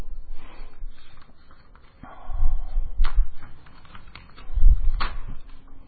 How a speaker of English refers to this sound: I don't know why I use these paper staples. They just end up destroying the page.